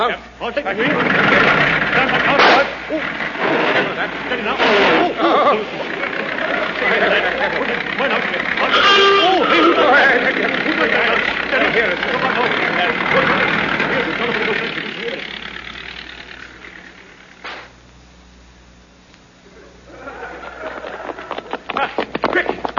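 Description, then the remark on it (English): A taxi engine idles with a steady low rumble as everybody gets in, beneath a busy wash of indistinct voices and movement, which fades briefly near the end before picking back up. “Taxi. Right, everybody in.”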